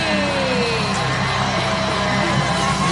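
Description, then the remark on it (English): A large wrestling arena crowd roars continuously, cheering and whooping for Jeff Hardy, with scattered yells rising above a dense, loud wall of noise that never lets up. “The crowd goes crazy.”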